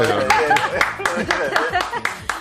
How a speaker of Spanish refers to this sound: Sí, sí, yo voy a aplaudirle.